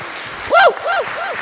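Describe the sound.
An audience applauds in a steady wash of clapping, while three arching, voice-like whoops rise and fall over it, each one shorter and softer than the last.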